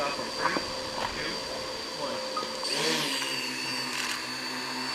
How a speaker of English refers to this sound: The small four-prop helicopter hovered high over caribou inside a fenced area, taking aerial images, a demonstration of what the computer program-controlled drones can do to count and assess animal populations in the wild.